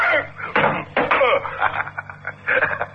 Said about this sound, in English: Your gun hit the door